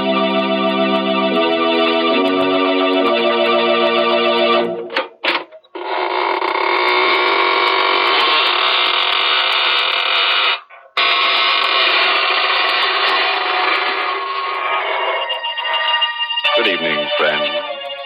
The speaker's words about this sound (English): This is your host of the Inner Sanctum, inviting you in through the creaking door.